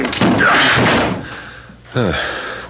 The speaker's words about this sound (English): Is this the apartment? Yes. Oh, all is quiet. Too quiet. Door is locked. Break it in. All right.